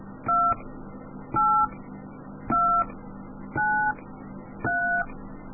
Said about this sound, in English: Please enter the 16-digit number from Group A, B, and C using the keys or rotary dial on your phone. Please enter these numbers slowly. All right, I'll try this again. I'll enter them slowly.